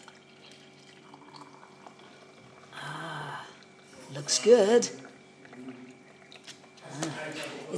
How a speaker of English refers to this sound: And I'm about ready to get that red tab, which you've got to pull down so that it creates an opening for the nozzle and to be able to pour. I've got that done, and I'm going to pour this coffee.